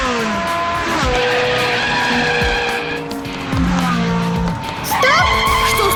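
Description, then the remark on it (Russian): A car in a computer racing game revs and accelerates while tires squeal and skid through several turns, loud, with pitch sweeps rising and falling over six seconds and no talking. “Дим Димыч, газуй! Полный вперед! Нет, поворачивай налево! А теперь крути руль вправо!”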